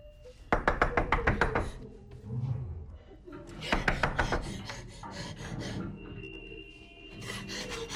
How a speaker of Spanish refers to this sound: Escucha en la puerta y llama.